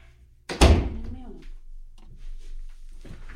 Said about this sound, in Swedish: Ja, men nu har jag stängt en till dörr. Nu kommer det inte höras.